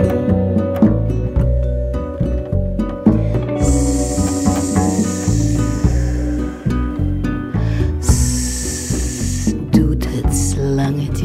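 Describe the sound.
Long snake hisses rise over bouncy music, a sustained hiss of about three seconds, then a shorter one and a brief final burst, each loud against the steady accompaniment.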